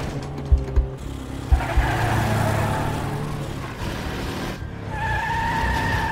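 A car races through back alleys and connecting streets while fleeing a pursuing car, its engine roaring, tires squealing through sharp skids, and a couple of sudden thumps near the start, loud with no voices.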